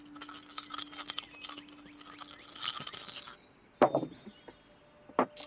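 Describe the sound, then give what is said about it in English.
Five dice are rolled all at once in a game, clattering and rattling together in a dense burst of small hard clicks for a few seconds, followed by two sharper knocks as they settle, with no talking. “I just realized I could just roll all 5 of these at once now.”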